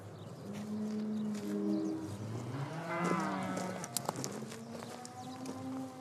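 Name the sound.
cows mooing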